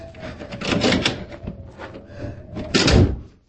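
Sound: door being opened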